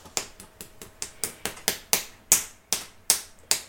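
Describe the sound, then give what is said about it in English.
About a dozen crisp, sharp slaps of a hand on skin over an itching tattoo, coming in a steady, quickening rhythm that then spaces out slightly, each smack bright and snappy with no voices. “Why are you tapping your tattoo? It itches, you gotta slap it.”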